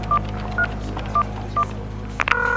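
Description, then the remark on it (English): A telephone number being dialed to call Sun Microsystems: four evenly spaced keypad beeps, then a rapid cluster of tones followed by a steady tone that carries to the end, over a low hum, with no talking. “Call Sun Microsystems. Get them on the phone now.”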